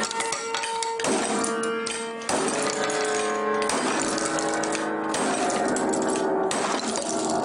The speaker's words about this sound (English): "Here's my mother's piano." He videotaped himself holding up a giant wrench in front of a little upright piano. "Right here." And then smashing it down.